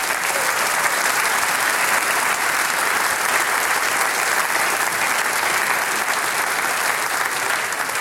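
Steady, dense applause from an audience, many hands clapping continuously at an even, loud level for the full stretch without pauses or voices.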